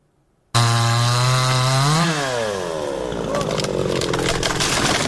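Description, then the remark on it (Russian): A chainsaw roars to life after a brief silence, its engine pitch rising and dipping as it revs, then settles into a loud, steady buzz as local residents of the frontline village of Ocheretyne cut trees damaged by blast waves and shrapnel into firewood. “Возле разрушенного в прошлом месяце российским авиаударом здания местные жители прифронтового поселка Очеретина пилят поврежденные взрывной волной и осколками деревья.”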